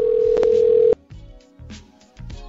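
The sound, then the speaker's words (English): A loud, steady telephone dial tone hums for about a second, then cuts off abruptly, leaving quieter low-pitched sounds afterward. “We're trying to get him on the phone right after this.”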